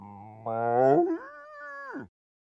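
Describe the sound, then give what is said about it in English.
A person imitates a cow with one drawn-out, low, throaty moo lasting about two seconds. It swells louder, then shifts to a brighter, higher tone before dropping off abruptly. “I love making animal noises. Love. Like a cow.”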